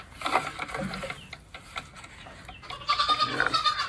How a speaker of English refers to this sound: And then there are my goats.